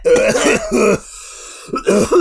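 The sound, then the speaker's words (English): Someone gives a loud, forced bout of coughing and gravelly throat clearing, two rough bursts separated by a short quiet pause, with no talking. “Now I actually have to cough. I actually hurt my throat doing that.”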